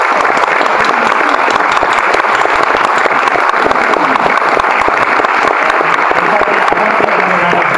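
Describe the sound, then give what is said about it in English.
A large audience claps steadily for the Hall of Fame committee, a dense, continuous wash of many hands at a loud, even level throughout, with no voices standing out. “So let's give a really big round of applause for all of you.”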